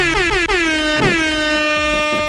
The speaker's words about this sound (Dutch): Zo'n foute reggaeton DJ toeter, maar die doet het wel goed, toch? Zeker, hij klinkt lekker.